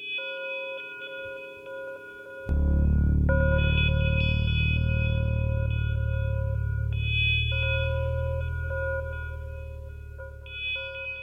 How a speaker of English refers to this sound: Have you ever heard an alarm like this?